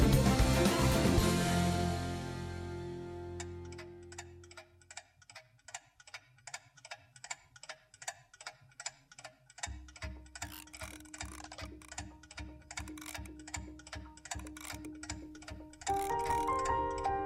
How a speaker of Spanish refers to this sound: ¿Eso que suena de fondo es un reloj? Un reloj. tic-tac, tic-tac, cuenta atrás, ¿eh?